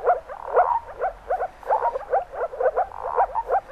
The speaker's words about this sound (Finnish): Joillekin viitasammakon pulputus tuo mieleen etäisen teeren pulinan.